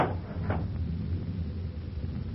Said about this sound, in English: Wait a second. I'll get this window up.